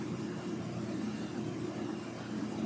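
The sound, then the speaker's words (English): Steady, unbroken rain roar with a dense low rumble and a soft hiss over it, holding an even loudness throughout with no voices. “All you can hear is the rain.”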